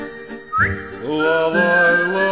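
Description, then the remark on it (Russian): A whistled imitation of a nightingale's song: a quick upward-sliding chirp, then long sustained whistled notes that step to a new pitch partway through, steady and fairly loud, with no talking. “И песнь соловья.”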